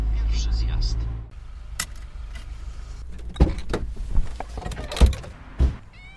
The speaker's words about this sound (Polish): To się drzwi nie chciało otworzyć, zapraszam.